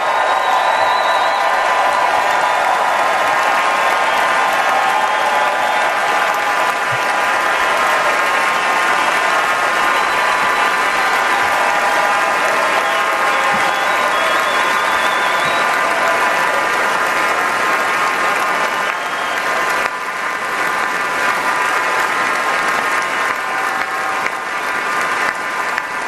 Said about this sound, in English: Standing ovation. Crowd went wild. Whenever you bring up mom, Mama Zioli loved this moment, as you can imagine.